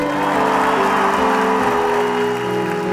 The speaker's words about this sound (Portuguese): Antes de continuar, você vai aplaudir aqui na minha direita